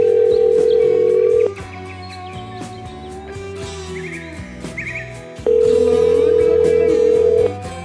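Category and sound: signal or alarm, phone call ringing unanswered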